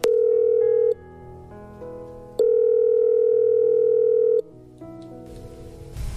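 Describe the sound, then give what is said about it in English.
A telephone line plays steady electronic tones: a short tone, a quick run of shifting dialing beeps, then a long ringing tone, clear with no voices. “So let's phone her now.”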